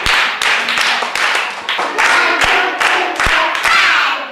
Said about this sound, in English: A big clap, another one, and a bigger one.